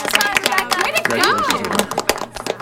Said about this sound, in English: would you please stand up so this committee can give you a well-deserved round of applause?